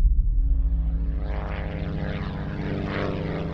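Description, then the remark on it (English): A small propeller plane drones steadily, its engine giving a constant low, buzzing hum with stacked harmonic tones and a slight rhythmic pulsing, with no voices present; the plane, piloted by Bruce Gernon, is flying from the Bahamas to Palm Beach through the Bermuda Triangle. “One day, pilot Bruce Gernon was flying a small plane, his father and a business partner in the seats beside him.”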